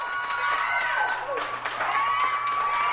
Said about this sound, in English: but in much smaller venues across the country they were cheering, too. Here's Hair Works Salon in Denver's Five Points neighborhood.